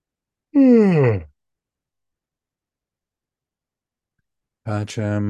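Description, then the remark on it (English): A single loud, drawn-out yawn with a voiced tone sliding downward in pitch, followed by a long silence before someone starts talking. “All right, I'm going to close the container after I yawn one more time.”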